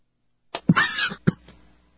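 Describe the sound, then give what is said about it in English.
A short fit of harsh, throaty coughing from a broadcaster on air, brought on while eating a sandwich: two sharp bursts with a rasping, strained catch between them, then quiet. “I rarely have coughing attacks on air, and I'm having one.”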